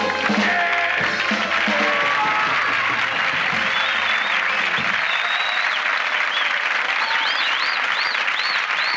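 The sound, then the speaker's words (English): A large crowd claps loudly and steadily throughout, with cheers and sharp whistles rising above the applause in the second half. “I think those posters that I put up really brought the crowds in.”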